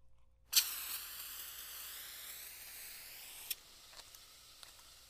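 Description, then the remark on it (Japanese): A sharp hiss bursts out as an aerosol can sprays carbonated body soap foam, used to wash feet during a foot bath, a steady pressurised rush lasting about three seconds before cutting off, followed by a few soft clicks and light wet sounds. “それはボディーソープですか。炭酸入りの。”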